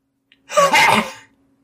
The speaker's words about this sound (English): It's like a big throaty, yucky, but dry cough.